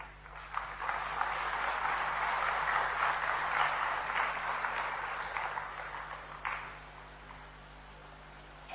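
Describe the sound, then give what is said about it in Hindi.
Sustained applause from an audience welcoming a guest who has come from Gwalior: a dense wash of many hands clapping steadily at moderate loudness, swelling briefly around the middle and thinning out toward the end. “देखिए सुदूर ग्वालियर से आपके महफिल में आए हैं भाई, तो आप सबसे अनुरोध है कि तालियां बजाकर इनका स्वागत करें।”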